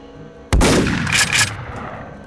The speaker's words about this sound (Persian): تیر دوم از روبرو و از سمت تپه شلیک میشه و گلوی کندی رو سوراخ میکنه